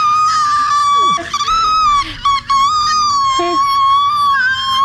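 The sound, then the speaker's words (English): A loud, shrill scream holds almost continuously for several seconds, its pitch wavering slightly, with a couple of brief catches and breaks before it carries on. “starts screaming at it.”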